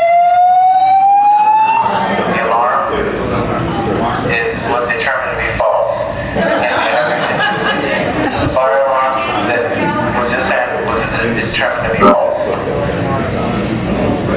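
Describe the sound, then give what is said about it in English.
A hotel fire alarm goes off during a convention with a rising electronic whoop, then keeps sounding loudly and steadily as a crowd of people murmurs and talks underneath. “I got to follow sailing and then get beamed by the fire alarm.”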